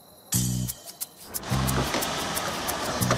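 A car bumps into a parked car in the morning with a sudden dull thud, followed by a few light knocks and a low, pulsing rumble of engine noise that carries on steadily underneath.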